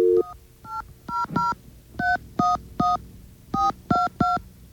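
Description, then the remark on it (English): A rapid run of about ten touch-tone keypad beeps, dialing a phone number from a pamphlet to call Sprint Spectrum, each a short, steady two-note electronic tone, dialed in uneven bursts with brief gaps and no talking over them. “Oh, there is a phone number. Let's give them a call.”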